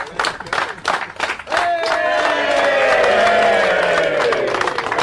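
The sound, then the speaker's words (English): A crowd breaks into loud, sustained cheering and whooping after a few seconds of scattered clapping and noise, many voices swelling together and holding until the end. “Oh, got a good crowd too.”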